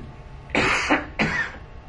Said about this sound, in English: Excuse me. I'm coughing because of a dry throat and I do not have anything infectious.